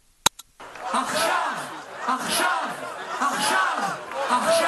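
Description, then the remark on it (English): A large crowd at a rally in Tel Aviv, Israel, supporting hostages held by Hamas, chants in unison in Hebrew "Achshav, Achshav" ("now, now"), loud rhythmic phrases repeating about once a second over steady crowd noise, after two brief clicks at the very start. “Crowd in Tel Aviv, Israel, rallying in support of the Israelis and others held hostage by Hamas for a month now, chants in Hebrew, Achshav, Achshav, meaning now, now.”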